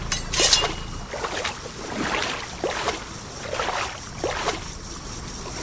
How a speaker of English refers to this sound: Now, if you don't move... If you don't move, you'll hear that little... sound, which means that your character is actually drowning.